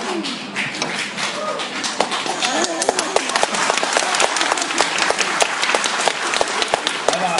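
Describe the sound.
An audience breaks into steady, dense applause, many hands clapping at once for several seconds, with a murmur of voices mixed underneath.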